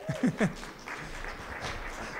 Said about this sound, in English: Come on, somebody give him a hand clap.